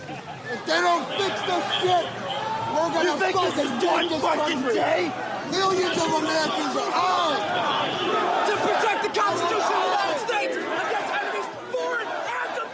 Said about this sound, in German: Wir hören hier Stimmen und Geschrei aus jenem Mob, der sich am 6. Januar dieses Jahres gewaltsam Zugang verschafft hatte zum Kapitol in Washington.